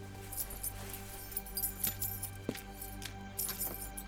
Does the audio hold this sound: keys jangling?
yes